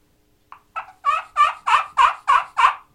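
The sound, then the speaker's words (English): A series of about eight rhythmic turkey yelps played on a friction call with a white oak wooden striker, starting soft and building louder, each raspy note evenly spaced, with no talking. “That's called a yelp.”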